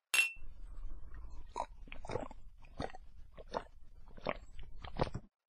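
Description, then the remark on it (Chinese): A single bright clink of red wine glasses touching in a toast rings out at the start, followed by a series of soft crunching and mouth sounds, with no one talking. “来，干杯。”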